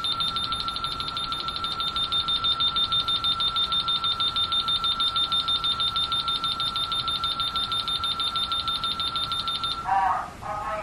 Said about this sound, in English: Now notice that the keypads are beeping right now to tell me get out the door because I'm getting ready to arm. Now they're not beeping in time. They're beeping kind of one after the other.